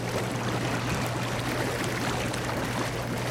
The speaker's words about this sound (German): Ja! Das Wasser beginnt zu blubbern.